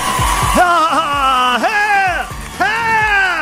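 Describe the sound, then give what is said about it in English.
A crowd cheers with loud, rising whoops and drawn-out yells in three surging waves, carried over steady background roar and a rhythmic low thumping, in response to a speaker calling to legalize, tax and regulate marijuana. “Well, that got the crowd going.”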